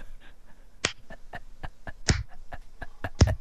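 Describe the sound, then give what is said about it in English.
A slow, sarcastic golf clap: light, evenly spaced hand claps at a steady unhurried rhythm, a few landing sharper and louder than the rest, with no talking. “No, I'd be doing the sarcastic golf clap.”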